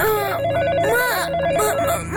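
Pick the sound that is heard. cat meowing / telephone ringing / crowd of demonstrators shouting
telephone ringing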